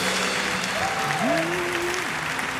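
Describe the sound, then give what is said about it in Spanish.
An audience claps steadily in a dense, sustained wash of applause, with a couple of held, gliding musical tones sounding over the clapping. “Un aplauso. Give him an applause.”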